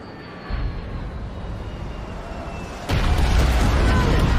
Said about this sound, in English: Two military jets shoot overhead and across a city beyond the highway.